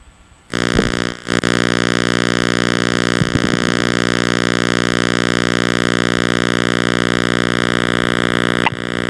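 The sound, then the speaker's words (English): A loud, harsh buzzer drones continuously for about eight seconds, a steady rich-toned buzz that briefly dips near the start, with no one talking. “I can hear buzzer sound.”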